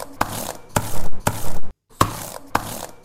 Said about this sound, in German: So klingt die Tastatur eines kaputten Laptops.